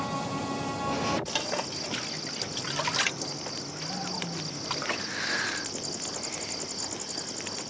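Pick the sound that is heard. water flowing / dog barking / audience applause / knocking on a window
water flowing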